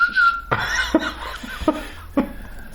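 A thin, steady whistle sounds for about half a second as a tobacco pipe is drawn on, followed by several short bursts of chuckling laughter.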